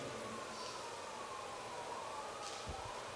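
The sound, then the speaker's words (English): A faint emergency siren wails in the distance, its steady tone drifting slowly in pitch beneath a broad wash of background noise, with a brief soft thump near the end. “Don't know what those sirens are for, but Lord, I pray that you would be in that as well.”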